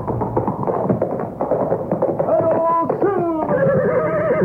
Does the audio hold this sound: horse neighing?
yes